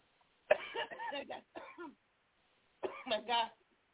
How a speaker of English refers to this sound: Oh my God. I guess I'm clearing my throat chakra.